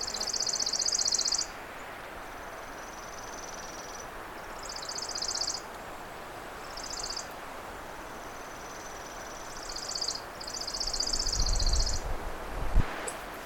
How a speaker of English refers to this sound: Chipping sparrows are actually fairly common. More common sometimes around residential yards. But this is a chipping sparrow up in the woods.